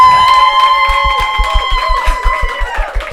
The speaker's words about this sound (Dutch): Dan gaan we klappen. En degene met het grootste degene met het grootste applaus, die krijgt dan een tasje vol met leuke dingen.